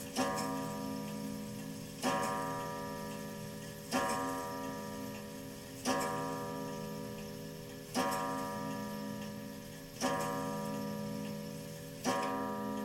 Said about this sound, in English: What time is it? Midnight? Probably. So let's wait for the clock to tick.